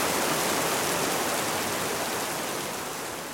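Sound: rain falling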